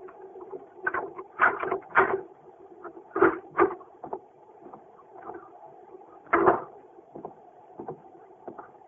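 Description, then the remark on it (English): Muffled, uneven footsteps approach down a hallway, followed by scraping and clicking as a key is worked into the lock of an apartment door, all over a faint steady hum with no voices. “Then we heard muffled footsteps coming down the hall and a key inserted in the lock of the apartment door.”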